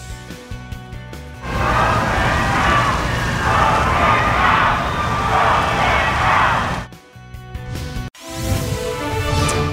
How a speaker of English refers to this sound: And the president booed and jeered while paying his respects to the late Justice Ruth Bader Ginsburg.